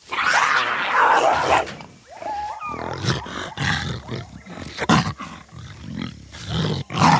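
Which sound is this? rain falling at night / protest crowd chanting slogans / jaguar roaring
jaguar roaring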